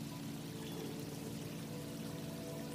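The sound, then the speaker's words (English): Water pours and dribbles steadily off a rope, tied to a rock, as it is grabbed, tugged and pulled up out of a creek by a footbridge; a soft, continuous splashing, fairly quiet, with no voices. “Grabbing a hold of it, tugging it, pulling it up from the creek.”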